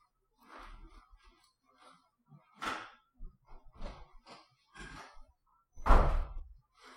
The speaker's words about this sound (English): Oh, slammed that door hard. It spiked the mic so much you probably couldn't hear it, but he slammed it really hard.